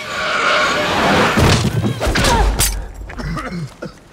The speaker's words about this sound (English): She crashes into him and the lens on his body camera breaks.